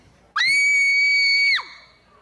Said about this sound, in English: That was terrible. So good. You can catch that each year up at Pioneer Hall on Friday. Oh, thank you very much, kids. That kid just screamed.